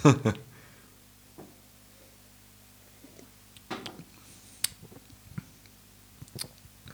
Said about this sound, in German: Trink mal einen Schluck. Ja. Halt ihn mal 10 Sekunden im Mund und schmatz ihn so ein bisschen. Da wird es irgendwie eklig.